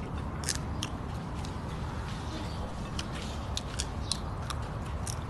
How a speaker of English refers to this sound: Yeah. People are just chewing. Why? What is she chewing?